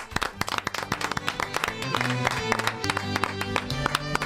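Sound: studio audience applause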